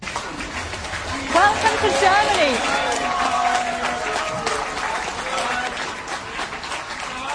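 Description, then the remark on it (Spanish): A large crowd at Munich's train station claps steadily and continuously to welcome arriving refugees, with excited shouts and cheering voices rising over the dense applause, loud and sustained throughout. “Aplaudieron a los que han emprendido un largo viaje, han huido de la guerra.”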